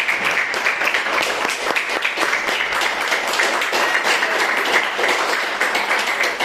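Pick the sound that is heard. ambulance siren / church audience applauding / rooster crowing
church audience applauding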